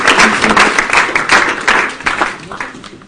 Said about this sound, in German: Amen. Amen. Einen Applaus. Ja, gerne.